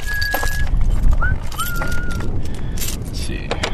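Footsteps crunch across gritty red dirt in a steady, uneven run of dry scraping steps, with a few thin, high whistling tones drifting above.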